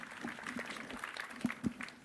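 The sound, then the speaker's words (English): An audience at a CCC talk claps in a steady, dense patter of many hands, moderately loud and sustained for about two seconds, with a few sharper claps standing out, welcoming the next talk, on disclosing security vulnerabilities. “A big round of applause, please.”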